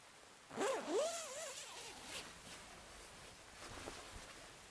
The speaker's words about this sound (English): There. Zip us back up.